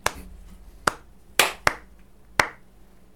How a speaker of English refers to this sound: Should we give him a slow clap?